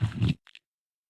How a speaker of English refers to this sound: I need a sip of water.